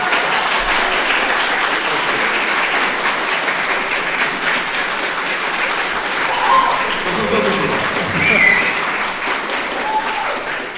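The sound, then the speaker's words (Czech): Sustained applause from an audience at Hunkon, a dense, steady crackle of many hands clapping for about ten seconds, with faint voices and brief whoops rising through it. “Samozřejmě děkujeme a jsme momentálně na Hunkonu, což jste poznali, protože nejlepší potlesk a nejlepší publikum je právě tady.”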